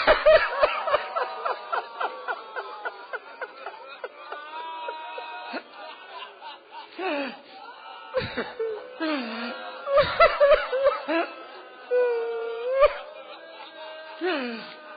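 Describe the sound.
Mourners weep and wail for Hussein: strained voices rise and fall in sobbing, moaning cries with short breaks for breath, continuing throughout at a steady, fairly loud level.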